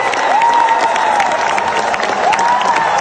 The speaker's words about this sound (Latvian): Sociāldemokrāti rezultātus uzņēmuši ar gavilēm un ilgiem aplausiem.